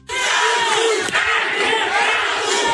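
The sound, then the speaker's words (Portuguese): A large crowd at an event with the president chants the name of Cadu, PT pre-candidate for governor of Rio Grande do Norte, a loud, continuous wall of many voices shouting in unison that stays steady for about three seconds without a break. “o público presente começou a gritar o nome de Cadu”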